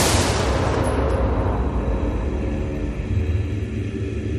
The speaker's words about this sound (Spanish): Él levantó el rifle, apuntó a la cabeza de su suegro y disparó.